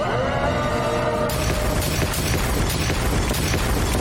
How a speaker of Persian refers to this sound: آهای شرمنده، ولی وسط انفجار پلاسمایی هستی.